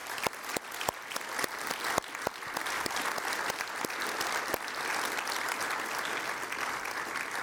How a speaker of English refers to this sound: Let's celebrate this. Give God a round of applause for these answers to prayer as a demonstration, all right?